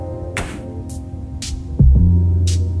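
A pop song plays loudly, with sustained synth tones, airy bright bursts at intervals, and a deep bass swell kicking in near the end.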